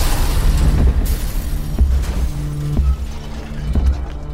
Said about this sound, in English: But then, an hour into the meeting, a series of explosions shook the house.